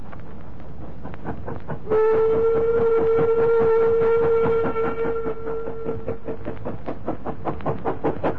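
A steam goods train labours slowly up an incline on its run from Nottingham to Chesterfield, its regular chuffing exhausts beating steadily, while a long steam whistle sounds for several seconds early on before the puffing continues alone.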